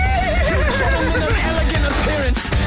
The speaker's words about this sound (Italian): Cavallo!